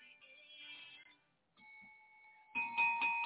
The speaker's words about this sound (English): Hallelujah. You hear that bell? It's just for you. Glory to God.